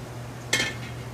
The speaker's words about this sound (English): All right. So we need to fry this okra really good. Yeah.